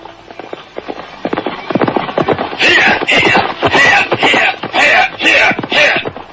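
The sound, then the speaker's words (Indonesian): Horse hooves clip-clop in a quick, uneven patter, followed by a run of loud, regular bursts as a rider's horse arrives at midday at the training centre at Bukit Pangi and slows, with breathy snorting or whinnying mixed in. “Siang itu, seorang penunggang kuda baru saja memasuki area pusat pendidikan calon tanda.”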